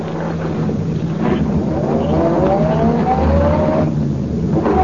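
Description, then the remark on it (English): A car engine revs hard and climbs in pitch as the vehicle accelerates away on a highway to chase another car, loud, with a steady rumble and rising whine filling the whole stretch. “Ready to start after him as soon as he passes.”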